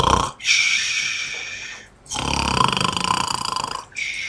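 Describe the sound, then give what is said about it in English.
A voice imitates the loud snoring of a dwarf asleep in a chair: two long, raspy, rattling breaths, the second one rougher and throatier, with a short gap between them and another breath starting at the end. “And then he pulls a chair over, because there's a dwarf asleep in the other only chair at this time.”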